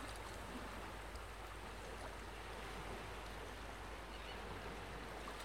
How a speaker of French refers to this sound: Laissez-vous bercer par le bruit des vagues et les mouettes qui volent au loin.